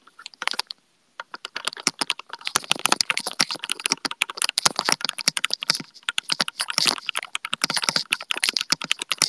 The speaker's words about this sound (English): It's very thocky, yes. Very thocky.Surprised you guys can hear it that much. I just really like to show off my keyboard.